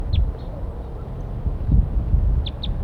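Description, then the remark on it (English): Short, high-pitched chirps of wild birds calling from the treetops, a pair early on and then a quick run of three near the end, sounding thin and light over a steady low rumble of background noise. “So recording, we got wild birds calling from the treetops.”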